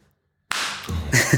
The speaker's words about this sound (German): Ich glaube, ihr habt meinen Facepalm gerade gehört.